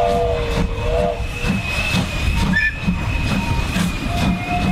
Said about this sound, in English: And we can already smell the steam over just left the station, so we're on our way.